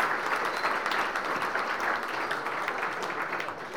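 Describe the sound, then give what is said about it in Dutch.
Steady, dense applause from an audience for the world champions, a continuous wash of many hands clapping at an even loudness for a few seconds, with no distinct individual claps standing out. “Dames en heren, groot applaus voor de wereldkampioenen.”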